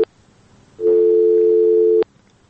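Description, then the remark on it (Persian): A telephone busy tone after a listener's call to a radio call-in programme dropped: a loud, steady electronic beep lasting just over a second, bracketed by sharp line clicks, with faint hiss before and after and no talking. “شنونده ما قطع شد.”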